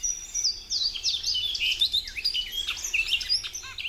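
A bunting sings a bright, high-pitched song of quick chirps and sweeping whistled notes, repeating continuously over about four seconds with no voices.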